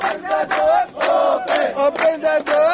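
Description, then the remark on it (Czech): A large crowd of refugees chants in unison, many raised voices shouting "Open the gate" over and over in a steady, insistent rhythm, loud and continuous throughout. “Kao i dan ranije, uzvikuju "Otvorite kapiju".”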